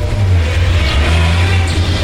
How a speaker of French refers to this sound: La voiture passe devant elle et sort du champ. Puis elle recule et s'arrête devant Barbara.